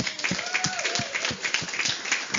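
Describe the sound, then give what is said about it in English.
A crowd applauds steadily, giving God a clap, many overlapping hand claps forming a dense, moderately loud patter with a few sharper individual claps and faint voices mixed in. “Let's give God a clap, shall we?”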